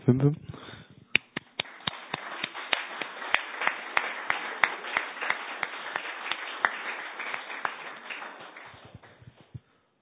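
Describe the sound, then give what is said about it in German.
Applause for presentations, a steady patter of many hands clapping that begins sharply, holds for several seconds with some louder individual claps, then thins out and fades. “Ich muss das Mikro kurz zur Seite legen, weil ich Applaus geben möchte euch.”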